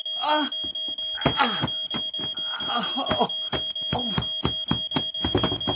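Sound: smoke alarm beeping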